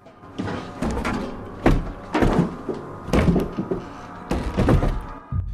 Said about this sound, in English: A tin can is trembling on the middle shelf. There appears to be a wobbling door nudging the shelf unit from behind.